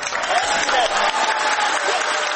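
Dense, steady applause from a large crowd at India's space centre as a staff member announces the spacecraft's landing on the Moon, with Prime Minister Narendra Modi present; a continuous wash of many hands clapping at once, with faint voices mixed in and no break across the whole stretch.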